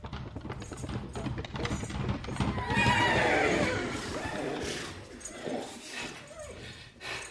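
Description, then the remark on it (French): A racehorse whinnies loudly, its shrill descending neigh rising over a busy background with hoof clatter, then trailing off into softer snorts and rustling. “Alors j'ai appelé mon ami idéal du gazo, le cheval de course, et je lui ai demandé conseil.”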